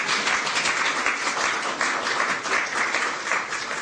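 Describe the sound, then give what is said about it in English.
At the swearing-in of Seema Verma as the 15th administrator of the Centers for Medicare and Medicaid Services, a crowd breaks into steady applause, a dense, even wash of many hands clapping at once that stays loud and unbroken for several seconds with no voices over it. “You can applaud that if you want.”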